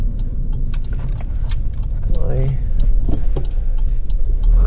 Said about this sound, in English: So many cars. Too many.